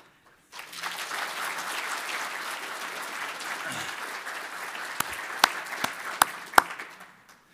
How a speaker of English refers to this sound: She's wondering why we're clapping for her, but that's okay.